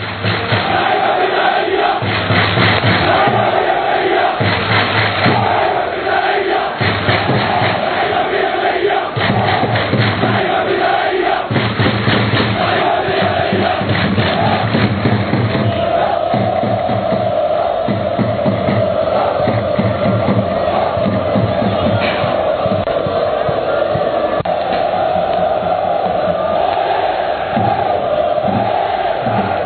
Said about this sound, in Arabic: وهي صوت الجماهير، جماهير الطواحين من أروع الجماهير الموجودة في غزة.